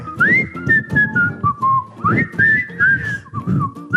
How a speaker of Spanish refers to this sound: Ay, güey, me pongo hasta de buenas, fíjate, de nada más oír ese chiflidito que me lleva al chisme, ¿no? A ese Nirvana.